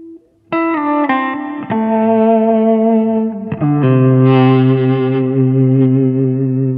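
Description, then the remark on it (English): A warm, distorted electric guitar played with an e-bow held slightly above the strings, about a quarter inch from the pickup, sustaining plucked strings in a warm 2-amp distortion; long, smooth sustained notes shift pitch a few times, loud and continuous with no attack between notes and no voices. “This creates a warm 2-amp distortion sound.”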